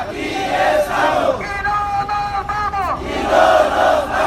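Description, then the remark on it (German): A crowd of refugees marching through Mexico chants loudly in chorus to motivate themselves, voices rising and falling together in rhythmic shouted phrases, with a sustained high-pitched tone swelling briefly in the middle before the chanting surges again. “Mit Sprechchören motivieren sich die Flüchtlinge.”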